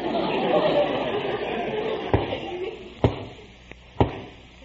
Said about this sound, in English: That's what I mean. Sounds like a knock on the door.